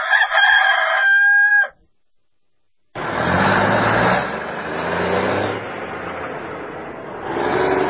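A single loud rooster crow rings out, followed by a short silence and then the steady rumble of a car engine driving along.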